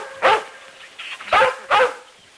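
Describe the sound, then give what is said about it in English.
Lassie, a collie dog, barks three times, sharp, with a longer pause after the first bark and two quicker barks following. No one speaks. “Priscilla looks out hopefully, then turns to the collie. There's nothing to bark at, Lassie.”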